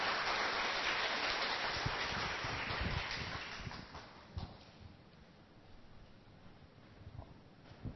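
Warm, steady applause from an audience welcoming a school principal as speaker at the Buddha Education Foundation in Shenkeng, a dense crackle of many hands clapping that holds strong for several seconds, then thins and softens toward the end with a few scattered claps.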